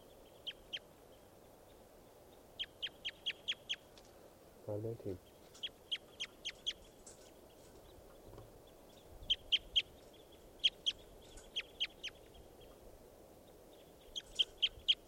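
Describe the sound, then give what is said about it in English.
A recorded call of bird number 519 repeats throughout as quick clusters of short, high-pitched chirps, three to five notes at a time, over a steady low rumble, with a brief low thud partway through. “This is bird 519.”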